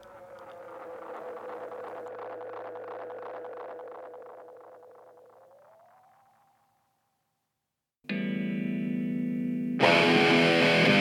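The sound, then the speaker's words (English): Tape echo effect from an RE-201 Space Echo: a dense train of repeating echoes fades away as the pitch bends upward into a thin tone, then a brief silence before a loud, distorted burst of sound. “And the RE201. Space Echo, what a surprise, we used that again in the end.”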